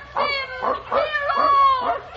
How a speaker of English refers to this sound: The sound swept closer, the angry, threatening roar of her own dog pack following the trail her abductors had made. They heard her cries now. They were coming closer, an angry gray horde